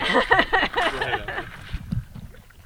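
Paddles dipping and water sloshing around a small boat on a river, a few close splashy strokes near the end, with muffled voices in the first half.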